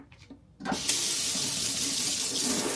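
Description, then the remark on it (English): A kitchen tap turns on and hot water pours steadily into a sink to fill it with soapy water, a loud, continuous rushing splash after a brief quiet moment at the start. No one speaks. “Now you are going to have to let me know if your kitchen starter, oops, maybe you can't hear me, but if your kitchen starter ritual also starts with a sink full of hot soapy water.”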